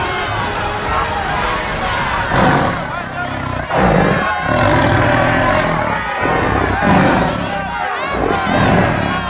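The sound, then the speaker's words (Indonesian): A crowd of spectators roars loudly and continuously in an alun-alun (town square), with many overlapping shouting voices swelling and dipping slightly throughout, never falling quiet. “Di alun-alun itu, riuh penonton membuat suasana semakin memanas.”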